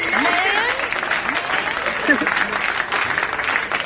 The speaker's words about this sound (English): Gotta give her a big round of applause. We sure appreciate you taking time out to come here and be with us in the Trap House tonight.